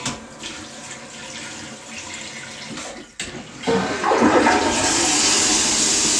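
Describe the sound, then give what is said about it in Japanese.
A toilet is flushed a second time, with a steady rush of water that briefly dips, then surges louder and hissier as the bowl refills, with no talking over it. “色は黄色いんだけど、ちょっと手がまたおしっこまみれになっちゃったから、拭いてもう一回流します。”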